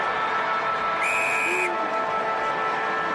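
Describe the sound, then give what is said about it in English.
A single short, steady blast of the final siren ending an AFL match between the Giants and the Cats at GMHBA Stadium, a high sustained tone rising above the loud, continuous roar of a crowd. “Buse, of all people, on the siren.”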